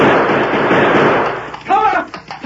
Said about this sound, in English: What in blazes? He's gone. He turned tail and headed back out of sight. Those shots warned him off. It wasn't me. I didn't squeeze the trigger.